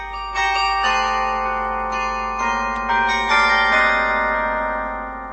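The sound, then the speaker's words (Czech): A mobile carillon, the world's largest operating mobile instrument of its kind, with 57 precisely tuned cast bronze bells (heaviest 860 kg, smallest 5 kg; 12 tons in total), plays a slow melody, each struck note ringing out and overlapping the next in a rich, sustained wash of tones. No voices are heard. “Mobilní zvonohra je největším provozovaným mobilním nástrojem svého druhu na světě. Má 57 litých velmi přesně laděných bronzových zvonů.”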